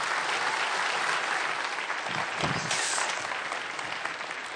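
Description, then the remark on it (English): Steady applause from an audience welcoming the guest speaker, a junior high pastor, fills the whole stretch, a dense, even crackle of many hands clapping at once with no voices standing out. “I like that we always clap at the beginning and get it out of the way.”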